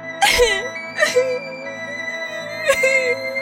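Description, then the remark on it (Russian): A girl, a princess in a garden, sobs bitterly in three broken, whimpering bursts, fairly loud, with a steady background hum between them; the crying sounds performed by a voice actor. “Однажды гуляла принцесса в саду и горько плакала.”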